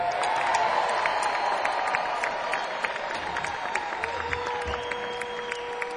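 An audience applauds a performer steadily for about six seconds, a dense wash of many hands clapping at an even loudness, with a faint sustained whistle-like tone running through it.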